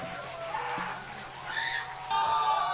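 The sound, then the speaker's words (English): Several birds call and chirp in the woods against a steady outdoor background, overlapping high-pitched notes that grow a little louder toward the end, with no one talking. “Listen to the birds.”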